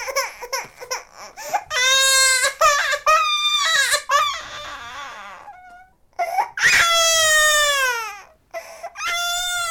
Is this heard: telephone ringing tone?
no